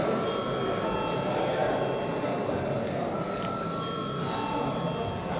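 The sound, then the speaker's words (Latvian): A parliament chamber voting bell rings steadily for several seconds, called before deputies vote on a bill: a sustained, high, buzzing tone that holds without pause over a low murmur of background noise. “Lūdzu zvanu.”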